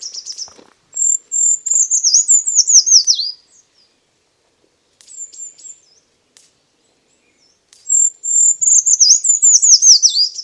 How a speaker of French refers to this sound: Je vais vous présenter le grimpeau des jardins.